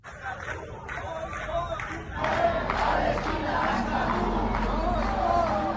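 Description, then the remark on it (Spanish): A large crowd of protesters at Bilbao city hall, under a large Palestinian flag, shouts and chants together in support of the Palestinians and against Israeli attacks, in loud, overlapping voices, rising in intensity after a couple of seconds into sustained collective yelling with a steady low rumble underneath. “La protesta ha estado presidida por una gran bandera palestina y entre gritos de apoyo a los palestinos y en contra de los ataques israelíes.”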